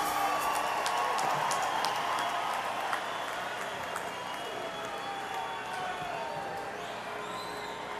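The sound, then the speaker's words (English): A large live crowd in Philadelphia cheers and whoops in a dense, continuous roar with scattered high shouts, loud at first and easing slightly as it goes on, with no single voice standing out. “Always great to see a Philly crowd, I'm telling you what.”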